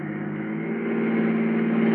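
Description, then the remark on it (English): A car engine hums steadily with a low harmonic drone, growing gradually louder as the car comes out of an alley and speeds this way. No voices are heard. “It's coming this way and fast, too.”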